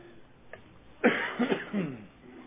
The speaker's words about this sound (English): I still got the whooping cough or whatever it is, so we'll see how far we get.